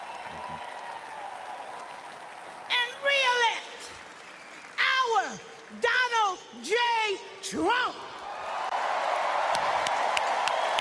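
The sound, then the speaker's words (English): A large crowd at a rally claps and cheers, with several loud whoops and shouted voices rising above steady applause before the clapping swells again toward the end. “There were, again, just a couple of super loud moments yesterday. That was definitely one of them. The crowd loved her message.”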